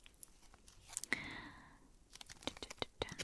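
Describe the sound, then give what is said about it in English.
Crisp tearing and crinkling of packaging as a new, sealed deck of affirmation cards is unwrapped: a longer rip followed by a flurry of small papery crackles and clicks. “So let me open this deck.”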